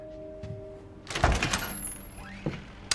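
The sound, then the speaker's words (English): A storeroom door is pushed open with a solid thunk and a brief rattle, then a faint creak and a small knock, over a low steady hum with no talking. “pushes open the door and turns the light on.”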